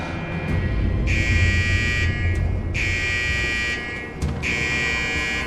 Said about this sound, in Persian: این صدا رو میشنوی؟ این زنگ خطر آتش بخش روانی است.